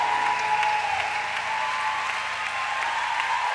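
An audience at a live show claps steadily for the women who performed the pre-show, a dense, continuous wash of applause that stays loud and even throughout, with no voices standing out.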